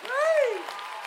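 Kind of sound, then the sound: crowd, audience clapping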